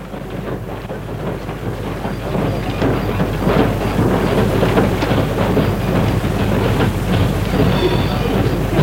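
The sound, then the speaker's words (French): A steady, loud rumble of a train riding on rails, heard from inside a train compartment while it rains, fills the whole clip, with dense rattling and clacking textures and a constant low hum, building slightly after the first couple of seconds. “Le trajet se passe tristement dans un compartiment de train.”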